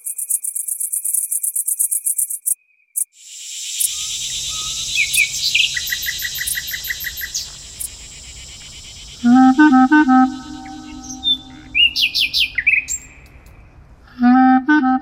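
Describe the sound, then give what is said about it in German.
A nightingale sings loud, moving through varied phrases: a rapid high trill, sustained whistled notes, then bursts of repeated chirps, over a low steady rumble. “Wenn ich darüber rede, mit Nachtigallen spielen zu wollen, bedeutet das für mich, dass ich von ihnen etwas lernen möchte, dass ich ihre Musik verstehen lernen möchte.”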